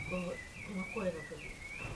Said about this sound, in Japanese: この何の鳥？動いすではないですね。